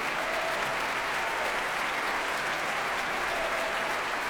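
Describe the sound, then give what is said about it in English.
A concert audience applauds conductor Thomas Dausgaard and the Swedish Chamber Orchestra loudly and steadily, a dense, continuous wash of clapping with no pauses and no voices standing out above it. “Well, they're applauding him hugely.”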